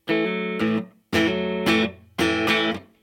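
Distorted electric guitar played through a DiMarzio PAF neck pickup plays three loud bursts of chords, each ringing about a second with a quick chord change before a short silence, no voices.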